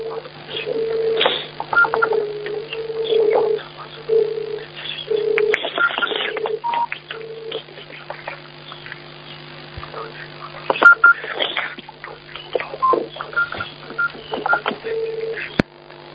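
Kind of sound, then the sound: signal or alarm, phone line tones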